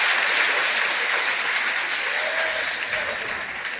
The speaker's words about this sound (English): Put your hands together and give the Lord a hand clap of praise unto them.